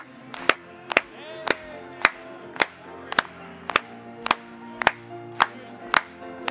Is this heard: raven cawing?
no